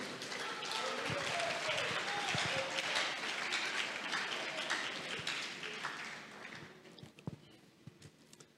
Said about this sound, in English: Clap for Jesus again.